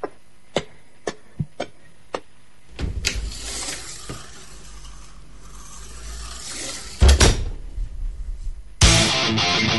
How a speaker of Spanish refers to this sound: abre la puerta de la sala de autopsia.